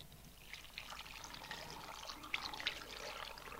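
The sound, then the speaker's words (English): A stirred, dissolved liquid mixture pours steadily into a cooking pot with a continuous splashing, gurgling trickle and a few brighter drips, fairly quiet, with no talking. “And then all I'm going to do is to pour this into the pot.”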